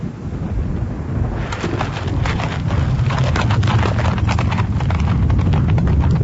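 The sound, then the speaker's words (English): Horse hooves clip-clop steadily on a road as the horses are turned toward Munich and driven away along it, a quick repeating rhythm starting after a moment and continuing throughout, over a constant low rumble, fairly loud, with no talking. “As Johann turned his horses toward Munich, I leaned on my stick and looked after him”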